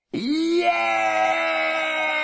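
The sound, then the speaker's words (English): A single voice imitates the rousing cheer of a crowd of schoolchildren following their leader into school: a loud, sustained cry that swoops up in pitch at the start, then holds steady for about two seconds before cutting off. “They burst into a rousing cry that could be heard 5 miles away.”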